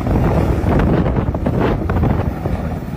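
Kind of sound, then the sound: nature, strong wind gusting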